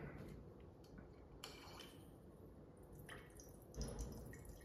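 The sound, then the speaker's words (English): A little more of the control wine trickles and splashes into a glass, a soft liquid gurgle with faint clinks of glassware, steady and quiet with no voices. “Let's go ahead and pour a little bit more of the control just so we can have it as a reference.”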